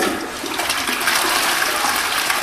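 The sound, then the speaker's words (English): A toilet made out of an old E4OD truck transmission flushes with a loud, steady rush of water that stays even and hissing for about two and a half seconds, with no voices over it. “I call it the Latrines Mission.”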